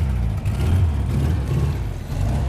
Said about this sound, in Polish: Tak właśnie brzmi Volkswagen Garbus. My zamykamy drzwi i jedziemy rundę honorową po placu, gdzie odbywa się rzeczony zlot.